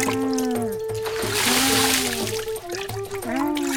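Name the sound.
water poured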